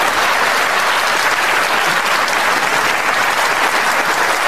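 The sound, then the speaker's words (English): A loud, sustained round of applause from a large audience at BBC Question Time for a speaker on the podium, dense continuous clapping for several seconds without pause. “It's not often you get such a good round of applause for one of the actual speakers on the podium at BBC Question Time.”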